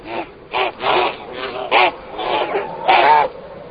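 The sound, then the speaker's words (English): Geese honk loudly and harshly in a rapid, irregular flurry of overlapping calls, agitated, with no pauses between the bursts, as they attack a bear eating eggs from their ground-nesting colony. “The geese launch an attack.”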